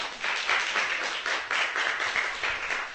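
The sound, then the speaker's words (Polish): A church audience applauds to welcome guests from outside the audience, many hands clapping in a dense, continuous patter of bright, crackling claps that holds an even loudness throughout, with no voices standing out. “I tak bardzo też się cieszę, że są osoby spoza zboru, są goście i gdybyście mogli takich serdecznie przywitać oklaskami na przykład, że są.”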